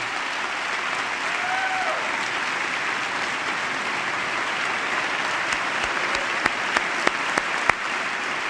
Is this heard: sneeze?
no